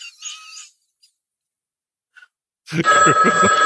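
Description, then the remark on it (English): A telephone bell rings briefly, then falls silent; after a pause, a louder burst of ringing returns, layered over a busy, dense mix of sound. “Phone call for Al.”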